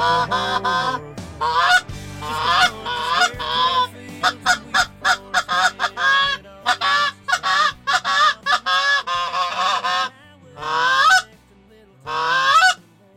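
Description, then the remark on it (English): A flock of geese honks loudly and continuously, harsh nasal calls overlapping in rapid bursts, with a run of short staccato honks in the middle before longer cries resume. “And the last thing I wanted to do was have geese come closer to the airplane”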